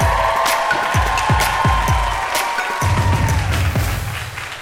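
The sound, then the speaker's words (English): A loud comedy-show audience cheers and applauds continuously for the final act of the evening, with steady rhythmic low thumps pounding underneath and a sustained whistle-like tone cutting through the noise. “Make some noise, please.”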